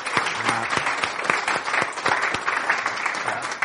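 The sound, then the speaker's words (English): An audience claps steadily throughout to welcome a speaker up, a dense wash of many hands with sharp individual claps standing out at a moderate, even level, no voices heard. “Why don't we welcome him up as British people, give him a clap.”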